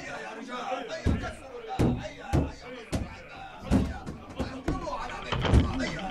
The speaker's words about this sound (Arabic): أيها الفرسان، اهجموا على دار الرضا وحطموا الباب، ادخلوها بخيولكم.